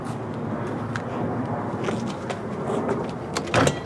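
A store door on a fake street set being tried and opened, leading into a small wine shop: a few scattered clicks and rattles of a handle, then a louder clunk near the end, set against a steady background hum.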